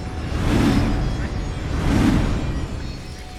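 Water rushes and floods in a steady, heavy roar that swells twice in slow surges, with a deep low rumble underneath and no voices, as water fills the streets of Oxford Street.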